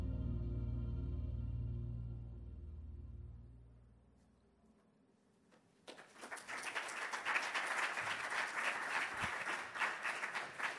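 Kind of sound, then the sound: crowd, audience applause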